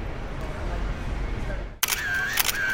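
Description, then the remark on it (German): A sharp camera shutter click snaps through a low, steady murmur, followed by a brighter mechanical whir as the film advances, fairly loud; someone is taking photographs where photography is not allowed. “Ich habe Ihnen doch gesagt, Sie dürfen nicht fotografieren!”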